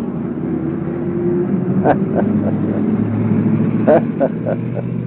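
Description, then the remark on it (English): An old school bus rumbles, its engine droning steadily while its brakes give a few brief, sharp squeaks in two quick clusters. “Brakes squeak on that old school bus.”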